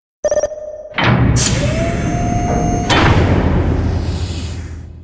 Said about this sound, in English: No! At that moment, the door opens.